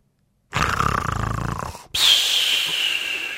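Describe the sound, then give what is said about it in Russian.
A voice mimics snoring, Karlsson imitating how Uncle Julius snores: a loud, rattling, throaty inhale followed by a long hissing exhale with a faint whistle, one full snore cycle with no words. “— скомандовал Карлсон, а потом изобразил для малыша, как храпит дядя Юлиус и как Фрёкенбок.”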